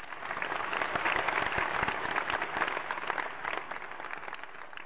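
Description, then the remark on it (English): A crowd applauds steadily for about five seconds, a dense, crackling wash of many hands clapping at once with no voices over it, holding a fairly even level before easing slightly at the end. “The crowd appreciates that you said that.”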